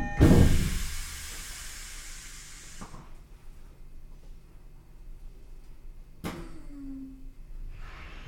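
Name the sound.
subway train doors closing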